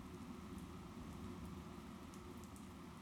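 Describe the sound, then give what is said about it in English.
Steady rain pours down evenly as a storm passes, with a continuous low rumble of thunder moving further away underneath, holding at a constant level throughout with no voices. “Yeah, I think the storm is passing. Listen. The thunder's getting further away.”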